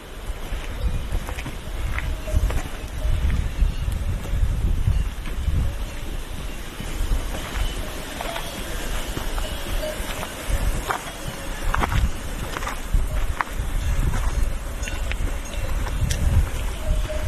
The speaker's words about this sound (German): dann hört man diese wunderbaren Kuhglocken. Es gibt Wasserfälle. Also die Geräuschkulisse dort ist wirklich einmalig.